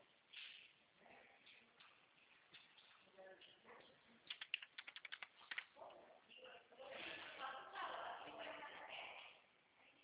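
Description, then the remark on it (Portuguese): A quick burst of computer keyboard typing, a dozen or so sharp clicks in the middle, set against a noisy room with muffled voices murmuring before and after. “Eu tô digitando um.”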